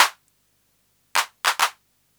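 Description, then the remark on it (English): Synthesized hand claps with the hand clap reverb off and the noise level turned right down: one clap, a pause, then a single hit followed by a quick double, each a short bright burst with a fast decay and no voices. “The hand clap depends on the noise level, so let's turn the noise level right down.”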